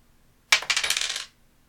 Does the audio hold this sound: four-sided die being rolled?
yes